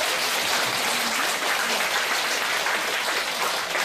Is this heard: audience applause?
yes